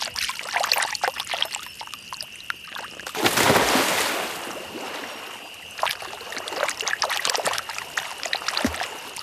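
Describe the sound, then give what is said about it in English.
Hands slap and drum on water in a loose rhythm, producing wet splashes and occasional deep, hollow thumps (the bass sound called gujan), with a longer rushing splash partway through and a steady high hum in the background; water drumming was traditionally done by Guguyalanji women. “Gujan means the bass sound when you drum on water.”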